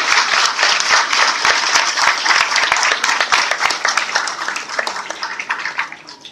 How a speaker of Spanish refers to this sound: Los personajes claramente son nuestros queridos docentes. Ellos son los que ponen el amor, la dedicación todos los días. Así que un aplauso para todos ellos.